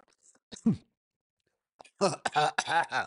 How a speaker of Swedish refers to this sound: Okej, måste hosta lite.